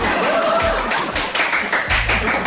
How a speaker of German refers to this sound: Und jetzt brandet hier wieder Applaus auf.